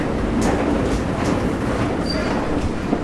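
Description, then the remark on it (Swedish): A steady rumble of a train at an underground train platform in Malmö, Sweden, broad and continuous, with faint rhythmic wheel clatter, a brief high squeal, and echoing ambience filling the space. “Jag tar rulltrapporna här ner till tågperrongen.”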